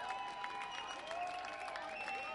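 A Wednesday night baseball crowd applauds and cheers in the ninth inning of a game where Lake County leads the Chiefs 2-0: a dense, steady wash of clapping with scattered high shouts and whistle-like tones, holding an even loudness for a couple of seconds.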